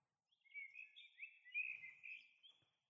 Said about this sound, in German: Geht nochmal durch, genießt diese Morgensstimmung. Es ist ganz ruhig. Nur ein paar Vögel hört ihr.